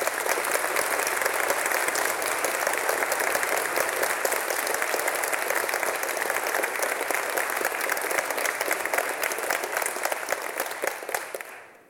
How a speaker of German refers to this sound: Dann hier bitte auch Ihren Applaus.